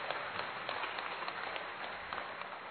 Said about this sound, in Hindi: इसके लिए उन सबको आप सभी जोर से ताली बजा करके बधाई।